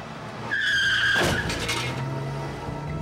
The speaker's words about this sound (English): Hey, that guy! He's taking off! The car sped away and disappeared around a corner.